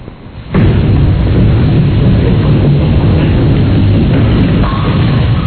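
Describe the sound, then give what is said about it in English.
A bowling ball rolls with a loud, steady low rumble that starts abruptly and carries on for several seconds, with a brief clatter of pins toward the end. No voices. “Well, that's more than just bowling ball. Bowling, that's bowling period. Pins.”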